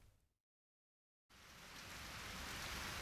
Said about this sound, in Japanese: おや、にわか雨かな。取り込んでおくれ。 濡れちゃうよ。